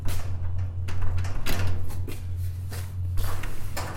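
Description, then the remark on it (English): A metal overhead door on rails rattles and clanks in several loud bursts while being shaken and moved to check whether it is secure, over a steady low electrical hum, with no one speaking. “This door is not secure. I don't see how it locks. It's an overhead door with rails.”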